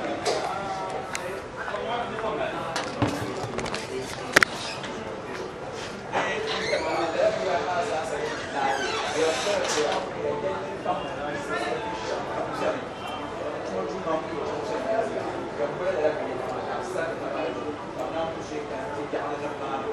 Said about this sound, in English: So maybe I'll just organize some chairs outside here.